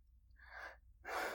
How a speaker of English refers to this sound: The irritation in my throat didn't subside, and my breathing began to quicken.